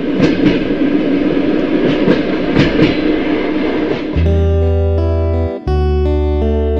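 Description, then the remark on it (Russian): A train carriage rolls along the rails with a steady rumbling roar and rhythmic clacking, then a loud, sustained tonal blare takes over, briefly cutting out before resuming. “Лиза не спеша зашла в вагон, села на свое место”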